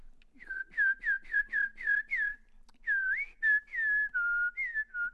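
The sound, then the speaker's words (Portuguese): A person whistles an imitation of a sabiá thrush's song: six quick, bright, bouncing notes, a brief pause, then longer sliding, warbling phrases, clear and steady with no talking. “Acho que esse é que é o sabiá, né?”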